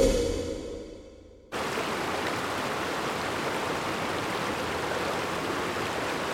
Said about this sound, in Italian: Il fiume che sentite scorrere sotto la mia voce è il Po, uno dei quattro lati del territorio canavesano. Siamo in Piemonte, in un'area compresa tra Torino e la Valle d'Aosta.